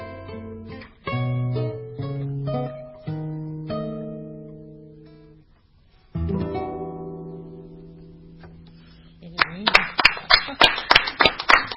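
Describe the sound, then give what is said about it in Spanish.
A song closes on sustained, fading chords, then loud clapping breaks out over the last two seconds in fairly even, quick beats as the audience begins applauding. “La cosa, romper con el aplauso, ¿viste?”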